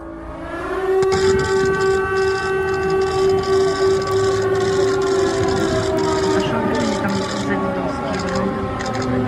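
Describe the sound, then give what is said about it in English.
A loud air raid siren wails steadily in Kiev for several seconds as Biden marches through the city with Zelensky, its tone sliding slowly downward, with rough background noise and muffled activity underneath. “There's Biden marching through Kiev with Zelensky today with air raid sirens, real ones, going off in the background.”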